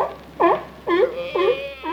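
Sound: crying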